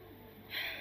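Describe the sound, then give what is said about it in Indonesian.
A single breath is drawn in through the nose, a soft airy hiss that swells in the second half and ends abruptly. It is quiet, with no talking. “Duduk diam, sadari siapa diri anda sendiri, tarik nafas.”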